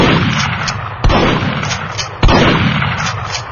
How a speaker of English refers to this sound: The Smith & Wesson pump gun roared in the enclosed space. Orange flame licked the ceiling.